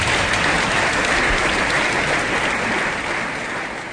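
Steady applause from a sizable crowd for a German hammer throw champion at an athletics event, dense clapping filling the whole stretch at a loud, even level before easing slightly toward the end.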